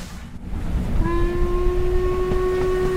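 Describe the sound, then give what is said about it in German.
The Jacobite Steam Train on its route to Fort William runs along the Atlantic coast and turns inland, rumbling with a low, steady roar; its whistle sounds after about a second and holds one loud, sustained tone to the end. “Dann biegt der Jacobite Steam Train ins Landesinnere ein”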